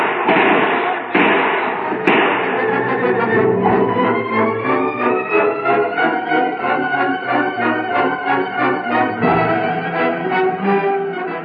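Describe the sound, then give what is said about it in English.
A door is slammed shut behind someone with a sharp, heavy thud near the start, with a couple of other knocks, all set against a loud, continuous wash of dramatic music. “Shut the door behind me and lock it.”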